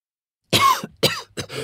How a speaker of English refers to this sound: I have a really bad cough. I'm coughing all the time.